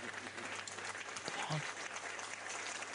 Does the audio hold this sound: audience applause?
yes